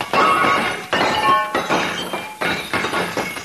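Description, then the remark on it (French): Glass shatters loudly as a Florentine mirror breaks, with several bursts of crashing and tinkling shards over a few seconds, with no voices. “Oh! Mon beau miroir florentin maintenant!”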